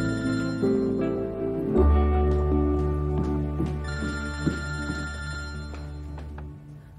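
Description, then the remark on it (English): A mother's phone rings with a steady, tonal melodic ringtone, fairly loud, playing continuously over a low sustained hum with no voices. “Mom's phone rings.”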